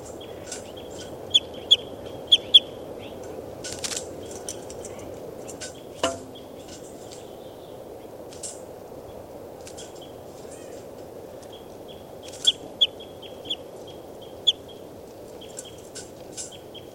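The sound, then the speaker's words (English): Short, high chirps of a bird, recorded as bird 392, come in scattered bursts over a steady low hum, with a sharp clustered call near the middle and more chirps toward the end. “Start recording. This is bird 392.”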